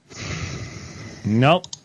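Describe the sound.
A long, airy breath exhaled close to a muffled call line, ending in a brief voiced murmur and a couple of faint clicks.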